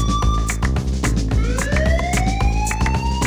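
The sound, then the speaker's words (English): A loud siren wails with rising, sweeping tones over a steady, thumping beat that pulses throughout, added to a Portuguese-style dance music track. Nobody speaks. “Now give me a siren. Just give me a siren.”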